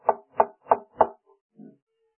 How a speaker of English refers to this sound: And here he's knocking.